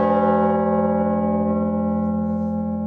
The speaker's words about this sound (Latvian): Mums ir otrais lielākais zvans Baltijā, kurš svēr 4 tonnas 782 kilogrami. Zvans ir īpaši ar to, ka kad kausēja metālu, lai sataisītu zvanu, tur iekšā vēl ielika sudraba monētas. Un ar to mūsu skaņa ir īpaša. Viņa nav tāda pati, kā pārējiem zvaniem.